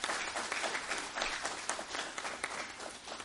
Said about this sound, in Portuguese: Peço a todos uma salva de palmas ao novo presidente.